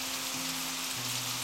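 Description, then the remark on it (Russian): Steady rain patters on a surface in a continuous, even hiss, fairly soft, with a low sustained hum or drone running underneath. “А дождь идет, не помня ничего.”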